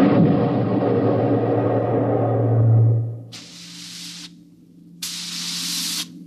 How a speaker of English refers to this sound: We could hear the desperate bursts of steam through the steering tubes as the Starfire maneuvered to dodge the enemy attacks.